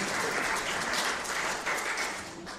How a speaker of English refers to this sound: Round of applause.